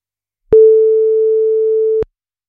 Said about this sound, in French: Première sonnerie.